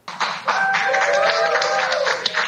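A group of people applauding at the Long Island Jewish Medical Center as a critical care nurse gets her coronavirus vaccine, a dense, steady patter of clapping that starts almost at once and holds at an even, fairly loud level, with a faint tonal voice or whoop threaded through.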